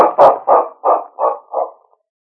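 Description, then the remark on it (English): Sergeant Preston's big dog, King, barks five or six times in a quick, steady rhythm, loud at first, each bark a little softer until it trails off. No one speaks. “The desk clerk at the Northern Hotel smiled as Sergeant Preston and his big dog, King, approached him in the lobby.”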